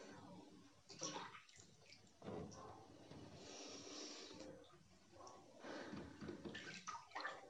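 water moving

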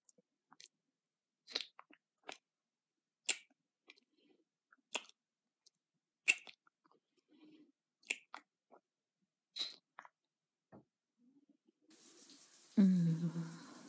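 running hot shower water

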